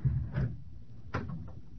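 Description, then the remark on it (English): A door is opened onto a hallway with two muffled clunks, a handle or latch catching and then a sharper knock of the door swinging, at modest volume against a low hum. “Open the door, take a look in the hall, then head for the stairs.”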